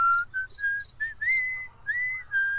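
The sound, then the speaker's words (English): A bird whistles a tune of clear, steady notes, short ones at first, then longer gliding ones that rise and fall in pitch, over a faint low hum. No one speaks. “Hello, bird? What now?”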